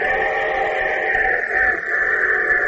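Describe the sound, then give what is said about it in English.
A loud train whistle sound effect for the summer show train of the Railroad Hour radio show blows steadily, a rich multi-toned chord whose pitch shifts partway through, over a low rumbling background, with no voices. “And here comes our summer show train with your host, Gordon McRae.”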